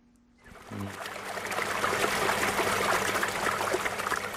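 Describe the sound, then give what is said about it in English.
Fresh spring water trickles and splashes steadily on a farm north of Johannesburg, South Africa, in the shadow of the Magaliesberg Mountains; a continuous bubbling flow that fades in after a brief quiet moment and keeps running without a break. “Fresh spring water nourishes New Harmony Farm north of Johannesburg in the shadow of the Magaliesberg Mountains.”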